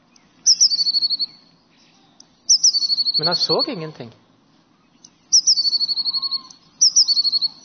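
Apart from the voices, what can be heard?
birds chirping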